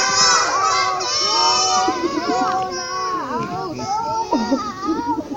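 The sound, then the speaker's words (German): A group of children shouting loudly together for Jonah to get up, many overlapping high voices yelling at once in a sustained chorus for several seconds. “Schreit mal ganz laut, Jona, aufstehen!”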